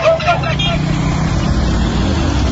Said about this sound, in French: On enfourche alors une moto pour découvrir.